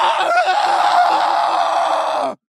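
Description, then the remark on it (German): A loud, sustained male scream sound effect that stays at full intensity for a little over two seconds and then cuts off abruptly, with no other sounds around it. “wenn, und zwar ist es der Mail This Loud Scream”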